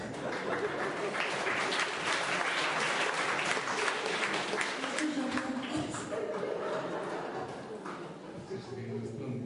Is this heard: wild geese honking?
no